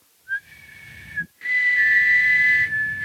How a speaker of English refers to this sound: I'm going to whistle two tones at once